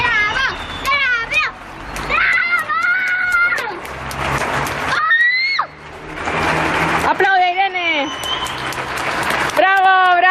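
A family and their neighbours applaud the doctors from their terrace: a steady wash of clapping runs throughout, topped by loud, high-pitched children's shouts and whoops that rise and fall in bursts, with a brief lull midway.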